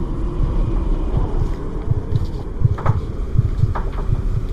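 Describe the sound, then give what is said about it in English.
Strong howling wind outside roars steadily through trees, a deep gusting rumble with soft surging pulses and a thin, faint whistle riding above it, continuing without pause and without any voices. “The howling wind outside is whistling through the trees.”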